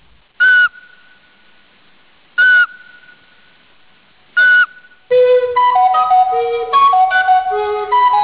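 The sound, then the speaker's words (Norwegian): A Eurasian pygmy owl gives three clear, evenly spaced whistled notes about two seconds apart, followed by a loud recorder melody of many quick notes. No talking is heard. “Her hører du at spurveugla og blokkfløyta ikke klinger helt ulikt.”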